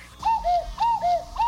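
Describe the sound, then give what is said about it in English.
A cuckoo clock calls its two-note "cuck-oo," a higher tone dropping to a lower one, repeated about three times in an even rhythm. The calls are fairly loud, with no voices. “Uh-oh, the cuckoo kids.”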